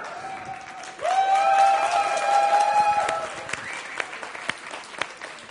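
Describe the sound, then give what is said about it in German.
A church audience applauds with steady, dense clapping throughout. A sustained high-pitched tone rises above the claps for about two seconds, then the clapping carries on alone and slightly thinner. “Das war aber ein bisschen wenig Applaus, aber ihr könnt gleich noch mehr applaudieren.”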